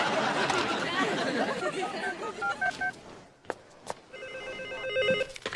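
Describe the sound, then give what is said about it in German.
A telephone rings with a steady, high electronic warble, coming in after a stretch of indistinct murmuring voices and a few short tonal beeps, and continuing clearly to the end. “Lass es klingeln, ja?”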